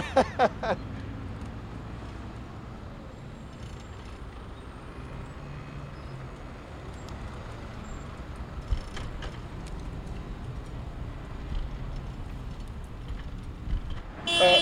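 Busy London street traffic in the morning rumbles throughout, with engines and passing vehicles, as a driver sounds a car horn in a few short honks at cyclists riding side by side, over the steady road noise.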